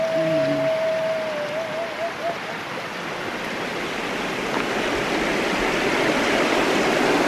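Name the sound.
river water flowing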